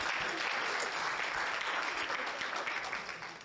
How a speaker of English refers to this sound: Thank you. Clap your hands for the vessel, for the potter.